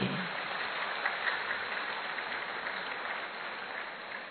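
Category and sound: crowd, audience clapping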